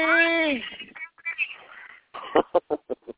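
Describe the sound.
A mobile phone ringtone plays a short, bright melodic phrase with a sliding pitch, followed by bursts of people talking in quick, choppy syllables.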